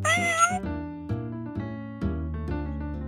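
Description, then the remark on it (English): A cat from The Aristocats storybook gives one clear, rising meow right at the start, followed by a series of steady, stepped musical tones that carry on for a few seconds with no one talking. “They are a happy family of cats.”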